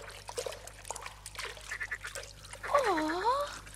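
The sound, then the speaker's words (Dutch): Four frogs croaking at a pond: a scatter of short, throaty croaks followed by a louder, drawn-out call that dips and rises in pitch, with no one talking. “Kwak, kwak. Kikkervrienden, help de gouden bal te vinden.”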